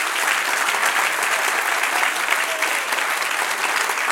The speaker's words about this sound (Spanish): Dale un aplauso, Señor. Amén.